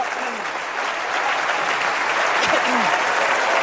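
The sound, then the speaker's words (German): A church audience in Salzburg gives the Lord a clapping offering in a steady, dense wash of applause that holds at full loudness throughout, with a few short voiced cries and whoops of hallelujah rising above the clapping. “Gebt dem Herrn ein Klatschopfer.”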